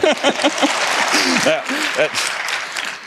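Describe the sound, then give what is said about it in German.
An audience claps in a steady, dense burst of applause for about three seconds, with voices calling and talking over it. “Naja, jetzt klatsch so. Mal.”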